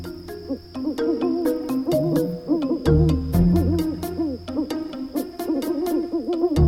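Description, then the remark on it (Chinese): An owl hoots over and over in wavering, overlapping calls, fairly loud, with sharp clicks and a steady high hiss in the background and no one talking. “从来没有听说过，猫头鹰居然害怕黑夜。”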